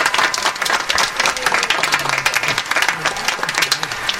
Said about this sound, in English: Give you guys, give yourselves a round of applause. Come on, let me hear it.